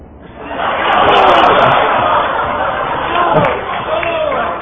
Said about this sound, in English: Okay, audience, this is your choice. By round of applause, the answer you like the most. Starting over here with this gentleman. Let's hear it for him.